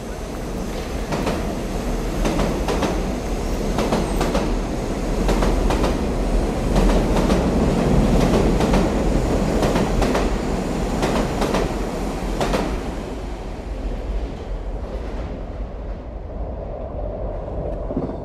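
A departing express train rumbles steadily with a loud, broad roar and a run of rhythmic clacks from the wheels, then settles into a quieter, lower hum over the last few seconds. No one speaks.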